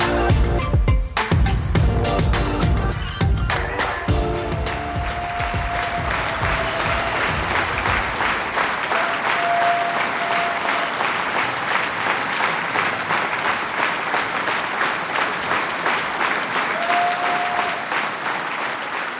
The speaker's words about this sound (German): Liebe Hörerinnen, liebe Hörer, der Applaus war für euch.